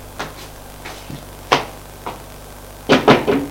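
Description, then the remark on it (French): Knocking on a friend's wooden bedroom door: a few scattered, lighter taps, then three louder, quick knocks close together at the end, with no voices. “Et il va frapper à la porte de la chambre de son ami.”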